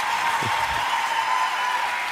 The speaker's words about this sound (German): Es ist dein Applaus, …, Alter.